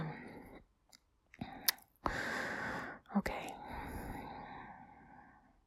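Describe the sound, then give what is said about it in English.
A big, drawn-out yawn, a long breathy exhale lasting several seconds and slowly trailing off, preceded by a few small mouth clicks and quick intakes of breath. “That's a big yawn. I'm really yawning big time here.”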